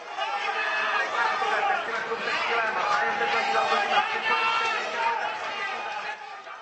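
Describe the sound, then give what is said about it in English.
Dense chatter from huge crowds at the Velká Pardubická horse race in Pardubice, many overlapping voices murmuring at a steady, fairly loud level with no single speaker standing out. “Once again, this year's Velká Pardubická was attended by huge crowds, including many foreign racing buffs.”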